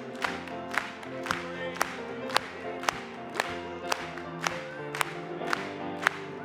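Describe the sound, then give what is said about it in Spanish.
An audience at a worship service claps in praise in steady unison, about two sharp claps per second, over a dense, sustained wash of crowd voices and tonal sound that continues throughout. “Vamos a aplaudirle.”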